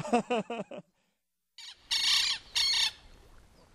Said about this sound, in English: That was a lapwing, a bird which I never caught sight of. Only the microphone caught that one.